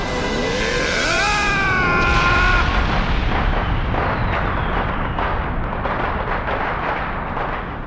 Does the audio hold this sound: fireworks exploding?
yes